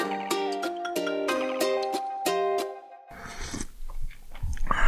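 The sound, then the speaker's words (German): A short burst of tonal music gives way to wet slurping noises, several uneven sucking pulls at a drink, with no talking. “Willst du mit Schlürfen anfangen?”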